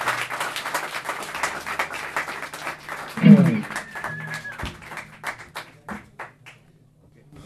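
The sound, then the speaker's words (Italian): An audience applauds steadily for a 15-year-old guitarist called onto the stage, a dense patter of many hands clapping with a few voices mixed in, then the clapping thins out and fades to silence at the end. “Farei un po' più forte l'applauso”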